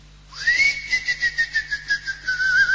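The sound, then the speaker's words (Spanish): A person whistles to lure a cricket out, one long, sustained high note that rises at the start, then holds steady with a rapid pulsing warble, fairly loud, with no talking. “No, pero así se va a meter para adentro, porque soy yo el que silba.”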